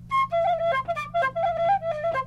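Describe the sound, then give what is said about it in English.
A bright Irish whistle plays a quick, lively tune of short, ornamented notes, fairly loud, with a low steady hum running underneath throughout. “Give us a little thing in that Irish whistle, that the thing there you got, whatever the heck it is.”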